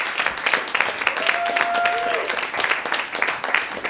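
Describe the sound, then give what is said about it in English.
An audience applauds improv performers at an Endgames improv production, many hands clapping steadily in a dense, continuous wash of crisp claps, with a brief whistle-like tone rising through the middle. “Can we get another round of applause for these amazing improvisers?”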